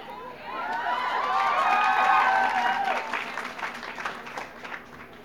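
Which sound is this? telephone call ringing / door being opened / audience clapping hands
audience clapping hands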